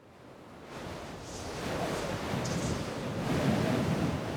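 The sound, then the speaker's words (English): A biting wind blows steadily across a grassy mound of earth in the graveyard beside Scone Abbey in eastern Scotland, a broad roaring hiss that swells louder over a few seconds, with faint higher whistling tones flickering briefly. No one speaks. “A biting wind whistles as it blows across the grassy mound of earth in the graveyard beside Scoon Abbey in eastern Scotland.”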